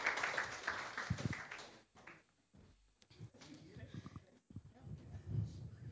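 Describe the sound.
A burst of audience applause rises at once, dense and lively, then thins out into scattered claps and murmuring voices, with people talking over the fading clapping.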